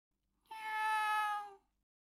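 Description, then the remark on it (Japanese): A single drawn-out meow from a pet cat named Cabbage (Kyabetsu), clear, rising then fading over about a second, with silence before and after. “飼い猫のキャベツに餌をあげなくちゃって、そればかり考えていた。”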